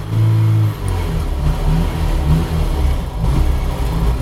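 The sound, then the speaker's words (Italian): A Fiat 127 car engine revs steadily with a low, throbbing rumble, its pitch rising and falling in uneven surges over a few seconds, loud and without any talking, as the car makes a loop around the Fondazione Prada neighbourhood. “La Fiat 127 ha fatto uno step attorno al quartiere della Fondazione Prada, come ti accennavo prima.”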